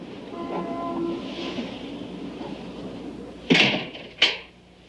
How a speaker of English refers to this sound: At the apartment, Lynn sleeps on the couch as Harry unlocks the door. When he enters, she awakens.